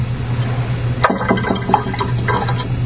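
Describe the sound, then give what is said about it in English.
Grapefruit juice pours into a glass, a splashing, gurgling stream starting about a second in and running steadily, over a constant low background hum. “And simply just kind of pour it right in.”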